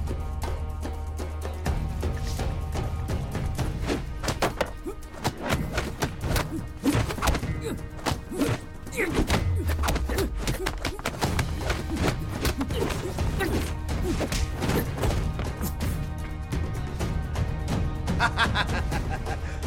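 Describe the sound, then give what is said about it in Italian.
Rapid Wing Chun hand strikes land again and again, including a double hand strike to an opponent's neck, a dense run of sharp whacks and thuds riding over a steady, tonal musical background for the whole stretch. “Doppio colpo di mano al collo dell'avversario.”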